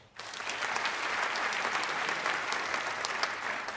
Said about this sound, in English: And I appreciate the applause. It's very, very good for our transitions, so thank you.